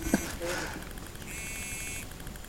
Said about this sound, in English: These silly phones, you know? The mic is out, the phone is ringing.